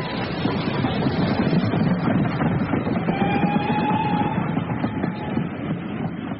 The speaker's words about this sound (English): We, the professor and I, dined that evening in the restaurant car as the express lurched and strained across Belgium.